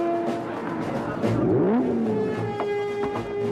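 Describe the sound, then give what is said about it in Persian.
A powerful sports car engine revs up sharply mid-clip at the Tower of London, its pitch sweeping upward then settling into a steady, throaty idle, loud against a busy background. “عجب ماشین فوق‌العاده‌ای قربان.”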